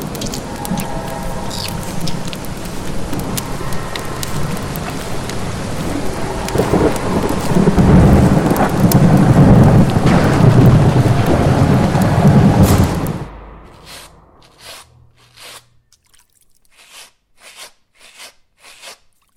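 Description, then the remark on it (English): A terrible night-time thunderstorm with howling winds, steady rain and a loud, rolling rumble of thunder midway, then the storm cuts off abruptly, leaving only scattered faint drips and patters. “I thought I heard you yelling in your sleep last night, but chalked it up to those howling winds from that terrible storm.”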